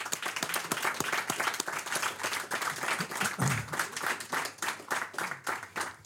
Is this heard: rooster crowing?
no